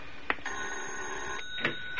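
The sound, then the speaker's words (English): A doorbell rings with a steady, bright electric ring lasting about a second, framed by short clicks or clanks before and after, with no voices. “Then I heard the bell.”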